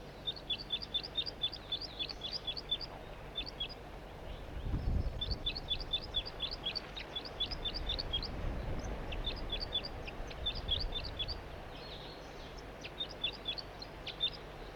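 A bird calls loudly from a tree directly overhead in rapid bursts of high, thin chirps, pausing briefly between series, over a low rumbling background with no talking.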